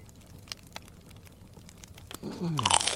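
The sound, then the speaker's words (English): Crisp, brittle crunches from biting and chewing a chocolate chip cookie, a few sharp cracks over a low munching texture, then a voice rises in at the end. “A plate of cookies and a glass of milk.”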